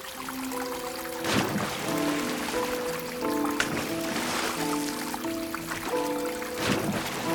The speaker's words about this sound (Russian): Колесница остановилась. Оба в воду входят.